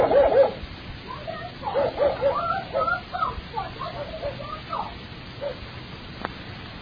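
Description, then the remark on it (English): A dog barks in a rapid, uneven string of short yelping barks, somewhat muffled, with a few higher whimpering notes mixed in before it trails off. “if you wouldn't get so nervous, all the time so nervous, that the dog barks, Ma. The dog barks, you know?”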